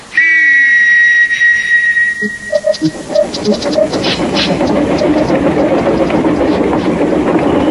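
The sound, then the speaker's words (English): A loud, wet steam train whistle blows for about two seconds, a bright sustained tone, followed by the chuffing and rumbling of a train moving along. “Oh, look, even the whistle's wet.”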